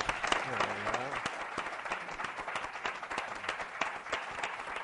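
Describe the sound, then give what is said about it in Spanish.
Steady audience applause for a neighbourhood champion who is present, dense overlapping claps sustained throughout, with a brief voice at the start rising over the clapping. “O sea, un aplauso para él.”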